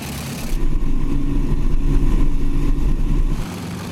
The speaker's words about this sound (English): that will run it, check the engines and props and all that out, and then he'll go and taxi it and get a feel for the airplane on that before it goes flying.